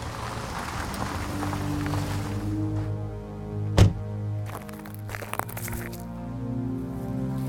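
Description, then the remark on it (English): A steady low engine drone is broken by one sudden loud bang, like a tire blowing out, followed by a few scattered rough thumps and rattles as the droning continues. “It sounds like we blew a tire.”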